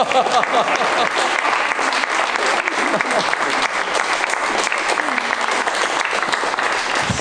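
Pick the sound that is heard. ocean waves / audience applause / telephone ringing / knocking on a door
audience applause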